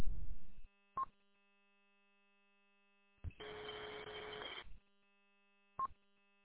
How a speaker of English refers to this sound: Okay, someone keyed up.